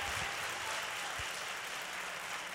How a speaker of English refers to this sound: We've clapped for a lot of people, but now let's give Jesus Christ the greatest, highest praise. Come on. There we go.